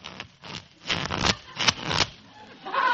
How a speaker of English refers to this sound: Boys, let's deal little cards, huh? Very well. I'll shuffle.